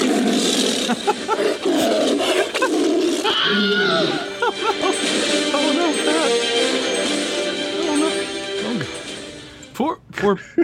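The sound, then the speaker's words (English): A tiger roars and snarls loudly and continuously, deep growls layered with harsh rasping cries, closing with a few sharp, abrupt bursts as if attacking. “He got mauled by the eagle last week, and now he's gotten mauled by the tiger.”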